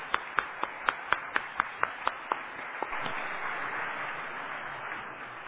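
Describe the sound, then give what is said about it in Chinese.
A church audience claps together in a quick, steady beat, about ten sharp claps, before breaking into a sustained wash of continuous applause from many hands, welcoming visiting brothers and sisters of the Gulubang church who came to the church's birthday celebration. “他们与我们一起来过生日齁，我们热烈掌声来欢迎，来感谢齁，古鲁邦教会的弟兄姐妹。”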